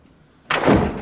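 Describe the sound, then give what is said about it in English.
The door of the Oval Office closes with a sudden, loud thud after a moment of near silence, followed by a brief, noisy rumble that lingers and fades slightly. No one speaks. “Janie shows Sidney into the Oval Office and closes the door behind her.”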